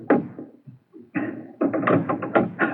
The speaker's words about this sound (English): I'm going to give a signal on the door. You see, I give three knocks. Then inside, they signal back to me to make sure I'm not a government agent. And now I answer with one knock.